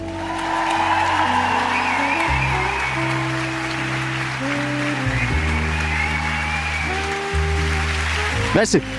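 Loud, dense applause roars steadily for several seconds over a backing of music with shifting low sustained chords, closing with a few sharper claps at the very end.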